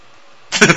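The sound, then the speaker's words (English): A loud, buzzy fart sound effect bursts in after a brief hush, sputtering in three quick wobbling pulses before cutting off. “Oh, that's gross. Fart sounds.”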